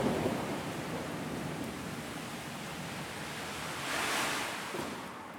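A steady, dense hiss of heavy rain from a thunderstorm fills the whole stretch, swelling briefly into a louder rushing surge before settling back, with no voices present.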